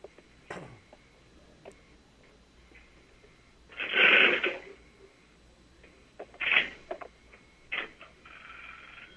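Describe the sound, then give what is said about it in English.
A telephone handset is picked up with faint clicks, then a loud burst of line noise from switching equipment, followed by shorter bursts and ticks as numbers are dialed. No one speaks. “but I'm going to go pick up a phone and you'll hear some noise while the phone is connected to a switching equipment, and then I'm going to dial some numbers and then you should hear another phone ring.”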